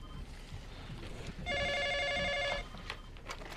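A telephone in a detective's office rings once, a steady, bright electronic trill lasting about a second, loud against a low rumbling background hiss, with no one speaking.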